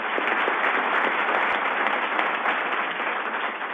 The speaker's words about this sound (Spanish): Y la aplaudimos de todo corazón.